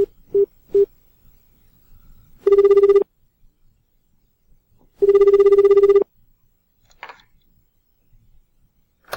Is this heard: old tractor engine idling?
no